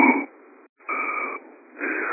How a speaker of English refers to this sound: We're getting some breathing sound, something. So whoever that is, probably go ahead and mute yourself.